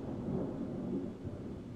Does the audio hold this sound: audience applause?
no